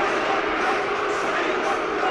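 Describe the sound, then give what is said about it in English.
A large Derby football crowd roars and jeers at the chairman before kick-off at the Derby ground in a steady, dense wall of catcalls, many voices shouting at once with no single call standing out, loud and unbroken throughout. “The chairman there answering the catcalls of the Derby crowd.”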